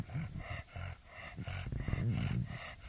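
A dog growls in a series of low, rumbling bursts that rise and fall over a few seconds, fairly loud and with no one talking.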